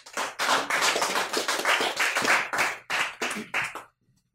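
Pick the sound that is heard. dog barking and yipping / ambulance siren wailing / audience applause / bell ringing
audience applause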